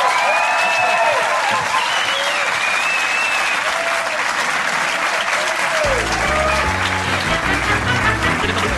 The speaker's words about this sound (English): Anyway, ladies and gentlemen, will you please give a massive round of applause for Tiny Alex Horn. He's tiny.